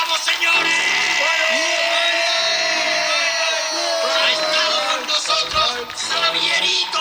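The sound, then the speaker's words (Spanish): Arturo González Campos yells loudly at the end of the show "Aquí hay dragones", one long drawn-out shout that carries on for several seconds, its pitch sliding slowly downward as it goes. “Y fue entonces cuando el grito de Arturo González Campos al terminar "Aquí hay dragones" me despertó.”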